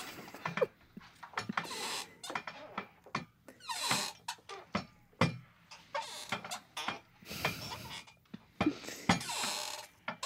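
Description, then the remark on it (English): A person's voice makes an irregular string of short squeaks and clicky chirps, mimicking whale-like calls, with brief gaps between bursts and no talking. “Just make squeaks.”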